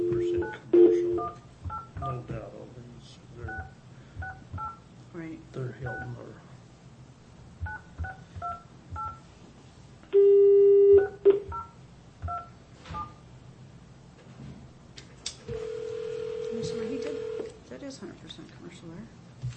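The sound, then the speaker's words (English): A rapid series of telephone keypad tones beeps out in short bursts as a call is placed from the Taney County Board office, followed by a steady dial-type tone, with a low background hum throughout. “Okay, tell him to get off the phone and we'll call him.”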